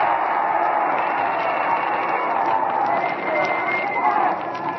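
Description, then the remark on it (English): A large crowd at a rally shouts and cheers for Mr. Roosevelt in a steady, loud roar that never lets up, with individual voices blurring into a dense, muffled wash of noise throughout. “And here they're shouting, oh, come on, keep it going, Mr. Roosevelt.”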